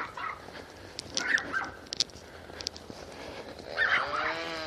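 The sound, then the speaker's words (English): Dogs bark, a couple of short bursts early on and a louder cluster of yelps near the end, over a steady outdoor background hiss. “So we got chainsaws, dogs barking.”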